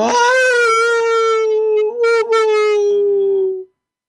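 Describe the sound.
A person wails at 4 in the morning, making the sound of sadness in one long, loud, mournful note imitating a howl, holding a steady mid pitch that sags slightly before cutting off after about three and a half seconds.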